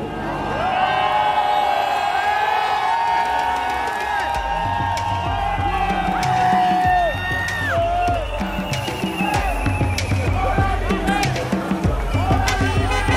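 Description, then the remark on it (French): A large crowd cheers and shouts continuously, with whoops and bellowing voices rising above a dense roar of many people, loud throughout. “C'est extraordinaire, cette foule.”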